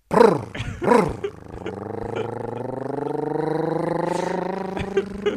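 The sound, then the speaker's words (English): A voice imitates a motorbike riding away: two quick revving bursts, then a long, steady buzzing drone that climbs slightly in pitch and holds for several seconds before cutting off. “are you riding a motorbike away?”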